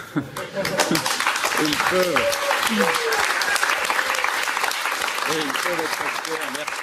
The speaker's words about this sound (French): Avant qu'à 20h39 précise, toute la rédaction n'envahisse le plateau pour entourer David Pujadas et l'applaudir très longuement.